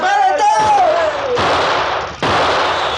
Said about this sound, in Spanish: Primero, fueron disparos contra el fugitivo y son hechos desde las máquinas más veloces del mundo.